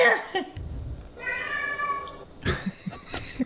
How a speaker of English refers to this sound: Yeah, that's him making his fucking... his fucking possessed, like, cat noises that he comes up here and does at 3 in the morning.